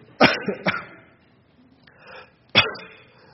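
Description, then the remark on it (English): Three sharp coughs: two in quick succession, a brief pause with some faint breathy noise, then one more loud cough. No one speaks. “I know you're laughing, I'm coughing.”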